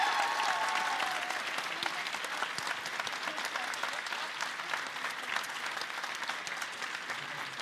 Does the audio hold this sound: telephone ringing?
no